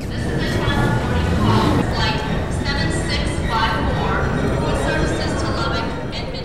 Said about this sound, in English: This is a busy airport terminal.